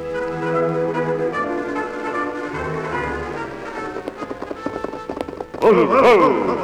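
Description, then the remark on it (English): Horses gallop off under swelling orchestral music as the Lone Ranger and Sheriff Thurman ride in pursuit of Tonto and the posse. A quick rhythmic clatter of hooves builds over a few seconds before a loud, bright burst of music takes over. “Then the Lone Ranger and Sheriff Thurman rode in pursuit of Tonto and the posse.”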